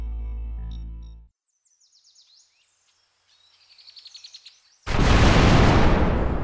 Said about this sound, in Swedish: Vilken jävla smäll! Det är ju dynamit